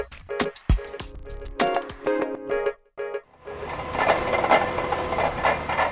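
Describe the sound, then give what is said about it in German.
A drilling rig bores into the earth's interior, first with clanking knocks and a droning mechanical whine, then settling into a loud, dense, steady grinding roar with a rattling vibration. “hier wird nicht gewaschen, hier wird gebohrt. Wir sind Zeuge einer Bohrung ins Erdinnere”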